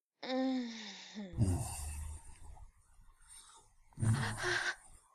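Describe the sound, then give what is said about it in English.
A short voiced tone gives way to two sharp, breathy gasps, fairly loud, separated by a quieter stretch of breathing. “It's those little gasps.”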